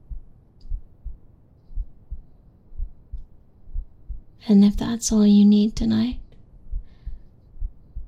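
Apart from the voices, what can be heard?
human heartbeat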